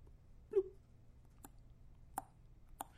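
Water drips from a leaky faucet: a soft pitched plop, then three sharper ticking drops at uneven intervals over a low, steady background hum. The drips are used as the rhythm track of a hip-hop song.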